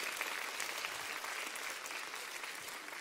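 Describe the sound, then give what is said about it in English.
An audience claps steadily for about three seconds, a dense, even wash of many hands with no voices and no break in the applause, giving a hand to a participant who is about to be given a prize. “All right, let's give him a hand, and here is the prize.”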